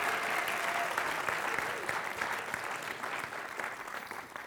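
An audience claps steadily in a dense, sustained burst of applause lasting several seconds, fairly loud throughout and tapering only slightly toward the end.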